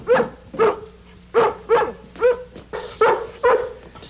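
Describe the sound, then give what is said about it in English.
A dog, Lassie, barks repeatedly, about seven sharp, evenly spaced barks in a steady rhythm, fairly loud, with no one talking over them; the dog has been told to bark whenever a grandfather sits up in bed. “I told Lassie to bark every time Gramps sits up, because Gramps isn't supposed to sit up.”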